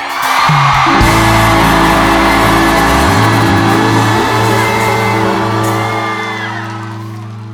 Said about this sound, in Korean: 5초간 함성 소리!